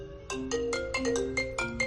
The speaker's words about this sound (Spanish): Este es el móvil despertador.